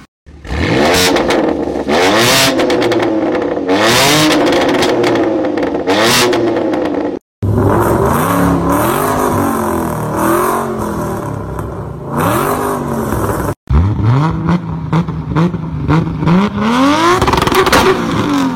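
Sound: car engines revving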